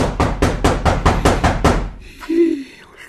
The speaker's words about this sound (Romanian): Totuși incontestabil, bate cineva la ușă.